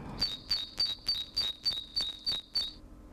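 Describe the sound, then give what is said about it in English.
An urban bird sings a quick, steady series of about nine short, high-pitched chirps, each note stepping slightly between two pitches, repeated evenly for nearly three seconds with no talking. “Here is the urban bird.”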